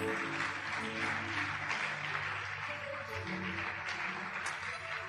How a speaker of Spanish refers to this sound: Ahora que voy a predicar, alabe la gloria de Dios. Dele aplauso al Señor.